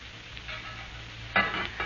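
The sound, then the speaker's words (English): Steady frying hiss with soft scraping of a utensil stirring food in a pan, as dinner is prepared in the kitchen of an apartment on the corner of 79th Street and Central Park West, with a sharper clatter of stirring about two-thirds through. No voices. “preparing dinner”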